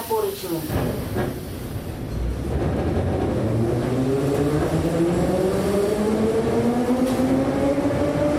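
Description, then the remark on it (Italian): A metro train accelerates, its motor whine rising steadily in pitch over a loud, continuous rumble and rattle, with a few clunks at the start, during a metro ride to the International Book Fair. “Di nuovo in metropolitana per raggiungere la Fiera Internazionale del Libro”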